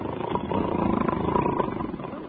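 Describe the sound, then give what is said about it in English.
A long, rough, rattling snore from someone sitting on the edge of a bed, not yet asleep, drones steadily for a couple of seconds, low and raspy with a buzzing texture, fairly loud and unbroken, with no talking over it. “I ain't asleep, but I am snoring already.”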